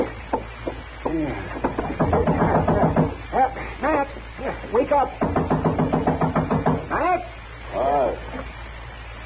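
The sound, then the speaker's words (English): Rapid bursts of knocking on a door come in two long runs, mixed with voices talking over and between the pounding. “Don't knock that door down.”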